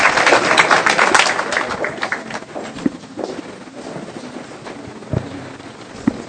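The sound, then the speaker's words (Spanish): Audience applause for two instructors introduced to present a practice on peppermint: a dense, crackling burst of many hands clapping, loudest at the start, then thinning out over several seconds into scattered, fainter claps with a few sharp single claps near the end. “Un aplauso para ellos, nos vamos preparando.”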